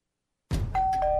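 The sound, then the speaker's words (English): A doorbell rings at a family's front door, rung by a court process server bringing foreclosure documents: a clear two-note ding-dong, the first chime higher and the second lower and sustained, over a steady low rumbling background. “This family is at home, but they won't be answering the door.”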